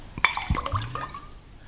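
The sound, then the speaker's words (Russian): A glass clinks once, then scotch splashes and glugs briefly into it as a double is poured, fading into a soft trickle. No one speaks. “Еще двойной скотч.”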